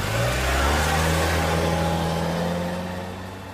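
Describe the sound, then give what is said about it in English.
A car engine revs hard and roars as the vehicle accelerates, its rising harmonic whine holding strong before the sound gradually fades out over a few seconds. “She drove away as fast as she could.”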